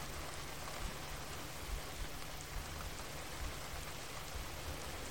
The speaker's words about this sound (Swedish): Och känna en tacksamhet till att du har möjligheten att uppleva regn. Hur känns regnet om det är en lite kyligare vårdag?